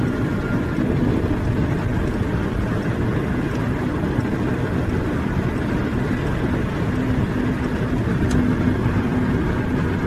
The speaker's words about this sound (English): Car is exiting exit 81, Interstate 81, and now getting onto Interstate 80, which is going to take us all the way there. Okay. Interstate 80 is going to take us from Pennsylvania to Nevada.